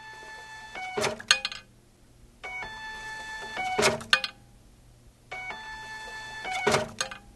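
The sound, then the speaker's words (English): A ticket printer at a symphony orchestra in Albuquerque, New Mexico, prints season tickets one at a time, running through three print cycles, each a steady mechanical whir ending in a sharp clack and rattle as a ticket feeds out, with no one talking. “We have a ticket printer here. It prints out one ticket at a time.”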